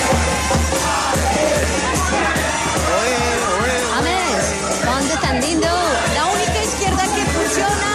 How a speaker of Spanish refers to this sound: Pero pues sí, y igual había muchos hinchas colombianos que fueron a recibirlo, a gritarle y apoyarlo. Wow. Sí, y acá está el audio de lo que pasó.